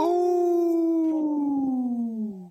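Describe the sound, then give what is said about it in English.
A voice imitates a wolf on Native Roots Radio, in a segment about Minnesota's wolf population, letting out one long, loud howl that holds steady and then slowly slides downward in pitch for a couple of seconds, with no talking. “We know the Lieutenant Governor is part of the wolf clan, so we like howling here on Native Roots Radio”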